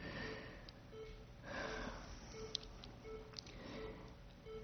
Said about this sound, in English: Is someone trying to address that beeping? Oh, okay. Could you just hold off until we get that beeping taken care of?